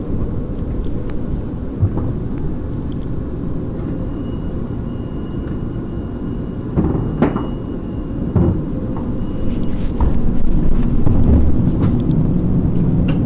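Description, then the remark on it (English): One of the newer passenger trains, marked 'Mineral', pulls into a station with a steady low rumbling roar, scattered clanks and clicks, and a faint high whine, growing slightly louder toward the end with no talking. “And here comes the train now.”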